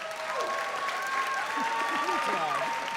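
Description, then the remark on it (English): An audience at a debate cheers and applauds steadily for the pro side for three seconds, a dense wash of clapping with whoops and shouted voices rising over it throughout. “Let's hear cheers for the pro side.”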